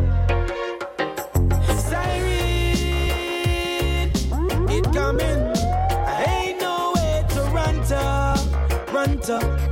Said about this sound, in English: Siren. You hear it? The cops is coming to get ya.